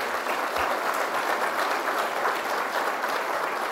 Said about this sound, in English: Could we have another round of applause for them?